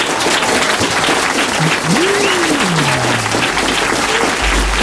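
A studio audience at the RFM radio station applauds a live music performance steadily, a dense wash of clapping that stays loud and even throughout, with a brief voice-like glide rising and falling beneath it.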